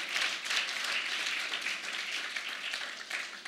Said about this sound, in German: Ja, und können wir gern dem Herrn klatschen.